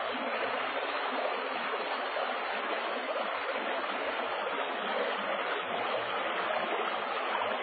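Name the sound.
river water flowing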